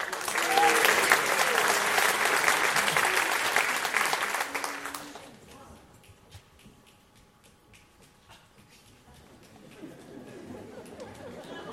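A crowd claps loudly for about five seconds for an act being introduced, then the applause quickly thins to a few scattered claps and quiet murmuring.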